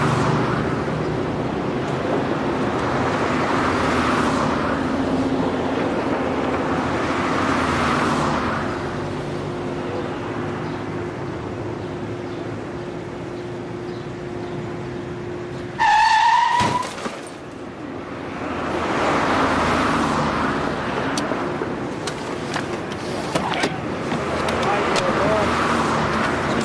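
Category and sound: vehicle, car skidding and crashing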